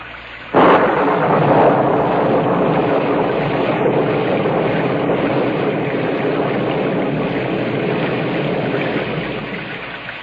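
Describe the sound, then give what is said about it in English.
A rain sound effect for the radio production The Zero Hour kicks in abruptly after a brief moment of silence, then holds as a steady, dense hiss of downpour with a faint low rumble underneath. No one speaks. “can we get level on the rain, please?”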